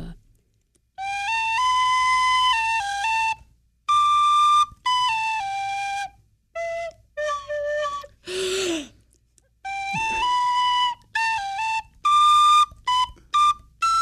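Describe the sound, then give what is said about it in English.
A tin whistle, being practiced, plays a slow, wavering song melody of sustained high notes, with short breaks for breath and a loud audible gasp midway; no talking. “Well, I've been practicing on my tin whistle.”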